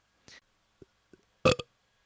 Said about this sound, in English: That's a burp. That's considered very rude, impolite.